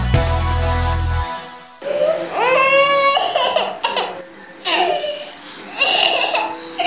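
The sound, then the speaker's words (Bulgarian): A baby cries in several short, rising wails separated by brief pauses, fairly loud, following a low sustained tone at the start. “Този плач може да означава... Гладна съм.”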